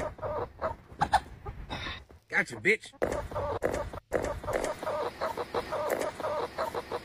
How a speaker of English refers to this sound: I looked at your page and saw this video of you catching a chicken, so I'm going to make a beat out of it.